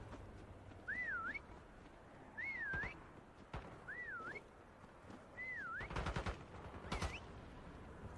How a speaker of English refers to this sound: Okay, we currently all whistle.